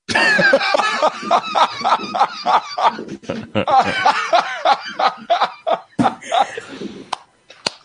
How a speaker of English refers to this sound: is that your son with the Omicron cough in the background?